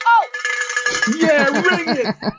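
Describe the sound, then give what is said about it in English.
A hand bell rings with bright, sustained metallic tones, then rapid repeated jangling strikes over about two seconds, loud and clattering, with a voice briefly mixed in. “If I had the bell here, I would ring it.”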